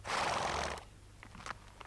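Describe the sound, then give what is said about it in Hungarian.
A horse gives a loud, breathy snort, followed by a few faint, scattered thuds like hooves shifting as three horses are led out and brought up. No one speaks. “Itt jön Antal a lovakkal.”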